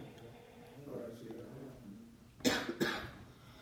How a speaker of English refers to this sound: Is that a dry cough I hear? I haven't coughed all afternoon.